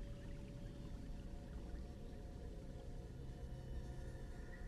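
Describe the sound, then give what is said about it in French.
A steady, continuous rush of river water flowing a few metres from a riverbank, a broad low churning wash that never pauses, with no voices present. “Puis la berge va s'agrandir et éloigner de quelques mètres le bruit de cette rivière.”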